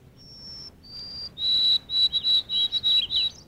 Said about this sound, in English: There it goes, The Midnight Thrill, a white throat song that breaks the chill.